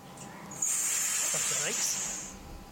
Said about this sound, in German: Das waren die Bremsen. Und nichts passiert.